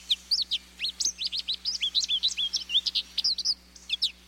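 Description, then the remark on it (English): A recently molted male American goldfinch sings in spring, a bright, rambling run of quick, high twittering notes, rising and falling chirps strung together without pause for about four seconds, with no voices. “This American goldfinch has recently molted.”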